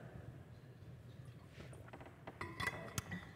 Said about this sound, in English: And I'm going to beg your pardon as I take a sip of water.